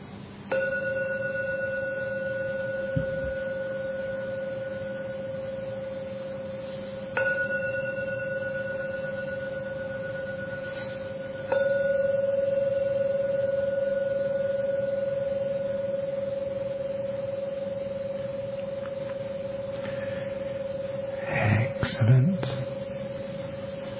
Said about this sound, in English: So I'm now going to ring the gong 3 times as usual to end the meditation. Please respect every ringing of the gong. And only when the last ringing disappears, only then open your eyes to come out of the meditation. Enjoy the sound of a Buddhist gong.